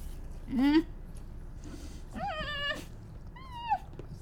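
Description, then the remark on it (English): A new puppy lets out three high, thin whimpering cries, each a short rising or wavering whine with pauses between, fairly soft over a low background hum. “I'll be good and play with my new puppy.”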